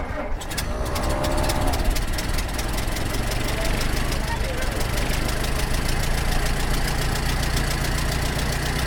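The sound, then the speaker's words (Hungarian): An old car engine with a planetary gearbox, a historic-registered vintage vehicle in Hungary, cranks and catches on the first turn of the key, then settles into a steady, rumbling idle with a low, throbbing, slightly knocking pulse, loud throughout. “Első kulcsra indul.”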